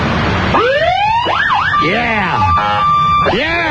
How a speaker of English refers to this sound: Montgomery County's finest. Would you just turn on the siren for a second for us?